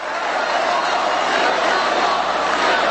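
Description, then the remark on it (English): A large crowd at CPAC applauds steadily while President Trump speaks, cheering his promise that they will get the wall: a dense, even wash of clapping that holds at a constant loud level for about three seconds with no voices standing out. “That's everybody applauding the fact he says, don't worry about it.”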